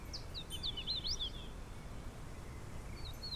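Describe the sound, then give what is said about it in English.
A hooded warbler sings a quick run of clear, slurred whistled notes, with a fainter note trailing later, over a steady low rumble of outdoor background noise. “No, that's a hooded warbler.”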